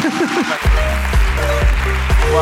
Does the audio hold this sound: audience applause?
yes